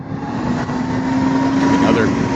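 A city bus engine rumbles loudly and steadily on a street in Brooklyn with snow on the ground, its droning hum sustained through the whole moment amid dense street noise.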